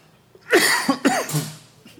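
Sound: dry cough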